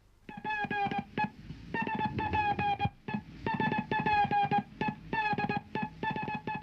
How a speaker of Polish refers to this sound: SPCJ, SPCJ. Taki sygnał przyjmują od 18 lat stacje brzegowe. Ten sygnał znany jest dobrze w szczecińskim porcie.